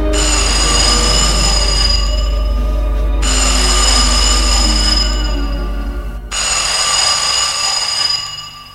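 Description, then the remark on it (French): A telephone rings loudly in Judith's office in three long, bright bursts separated by brief pauses, with a steady low rumble running underneath the whole time. “Une semaine plus tard, le téléphone sonne dans le bureau de Judith.”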